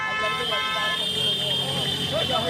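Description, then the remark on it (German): Horns of trucks and minibuses blare steadily as they barely get through a congested street in Bangladesh, over a dense, busy street din, with traffic rumble and indistinct voices mixed in throughout. “Lkw und Kleinbusse kommen kaum durch die verstopfte Straße.”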